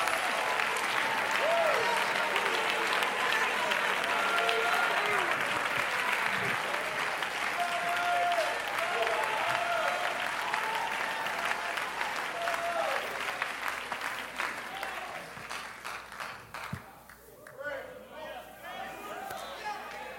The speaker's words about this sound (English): I wish somebody would clap their hands.